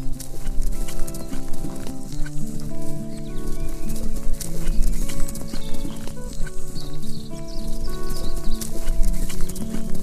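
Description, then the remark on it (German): Steady hooves of a white horse being ridden through a forest clip-clop at an unhurried walking pace, over a continuous tonal music bed, with faint birdsong high above. No one speaks. “Doch plötzlich wird das weiße Pferd langsamer.”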